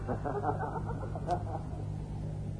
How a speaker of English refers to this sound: Bright sun, the song of the birds, high and remote.